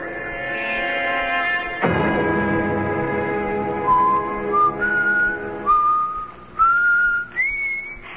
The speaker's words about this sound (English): Do you have to whistle like that all the time?